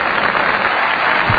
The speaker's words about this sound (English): Here, let's give a round of applause to the lead singer